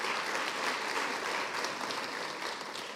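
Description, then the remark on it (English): A crowd of people in a church clapping their hands for the church and its leadership, in sustained, dense applause, steady and fairly loud throughout, with no voices standing out. “Can we clap hands for this church and its leadership?”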